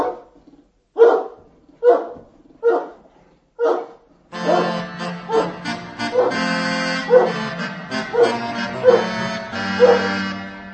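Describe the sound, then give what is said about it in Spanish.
A dog barks five times in a steady, evenly spaced rhythm, clear and distinct; then a dense, layered background swells in and the barks keep coming beneath it. “El monarca dio el mejor perro al mayordomo, lo que enojó mucho a Tycho Brahe, cuenta la anécdota.”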